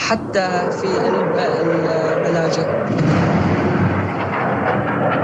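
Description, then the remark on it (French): Heavy, rumbling explosions from an air raid striking the area where the reporter is roll on continuously, with dense low booms and crackling debris, while voices shout and talk over the din. “Voici un des raids aériens qui vient de cibler à l'instant la zone dans laquelle je me trouve.”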